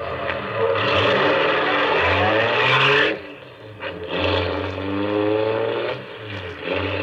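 A car engine revs up and pulls away, its low growl climbing in pitch through two loud surges with a brief dip between them, no voices present.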